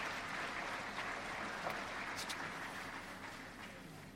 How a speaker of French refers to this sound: Donc, je vais vous demander de reconnaître, de féliciter les personnes qui ont permis à tout ceci de se produire. C'est en fait vous tous. Donc applaudissons-nous tous ainsi que toutes les personnes du monde entier.